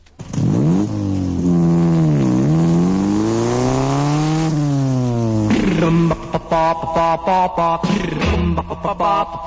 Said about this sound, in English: A motorcycle. Motorcycle.